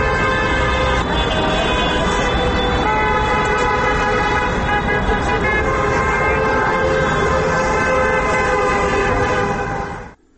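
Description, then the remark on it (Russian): A dense chorus of car horns from motorists greeting people gathered on Yakub Kolas Square at 8 p.m. during a peaceful protest action honks loudly and without pause, many overlapping blasts blending into a sustained blaring wall of sound that cuts off abruptly near the end. “У 20 годинов у разных кутках площади Якуба Колоса зазвенели телефоны, але особливую активность проявили автомобилисты, якія вітали сигналями тих, хто собрався на площі.”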